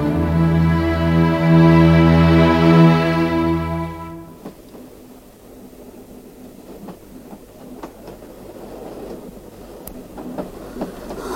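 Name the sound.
train moving along rails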